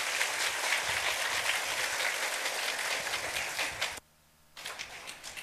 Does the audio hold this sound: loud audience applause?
yes